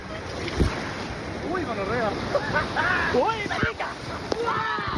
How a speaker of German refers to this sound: Das Schlauchboot schießt durch die Stromschnellen, wird hin und her geworfen von den Wassermassen des Rio Pato, der sich aufbäumt, sich schäumend und gurgelnd durch dichten Urwald und wildromantische Schluchten schlängelt.